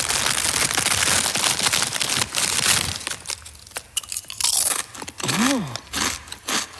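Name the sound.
eating crunchy potato chips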